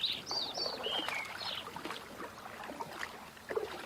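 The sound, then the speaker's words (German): Birds sing and chirp up in the sky in short, bright phrases over a soft wash of gently lapping water, several calls overlapping in the first couple of seconds before trailing off into scattered faint chirps. “Und oben im Himmel kannst du die Vögel singen hören.”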